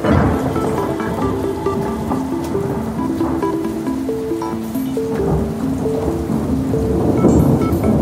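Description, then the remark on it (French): Heavy rain pours steadily throughout with low thunder rumbling underneath, a dense, continuous storm wash with a soft melodic tune running over it and no voices. It is a storm in Fréjus, where up to 128 mm of rain falls and causes a violent flood. “À Fréjus, il tombe jusqu'à 128 mm de pluie.”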